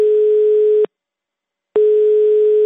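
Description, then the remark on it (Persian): A steady telephone line tone from Radio Azadi's 24-hour automated message phone line sounds loud in two long beeps separated by a short silence, like a busy or ringback signal on a phone line, with no voices. “هر وقت که خواسته باشید میتوانید در تلفن اوتومات رادیو آزادی پیامتان را ثبت نمایید.”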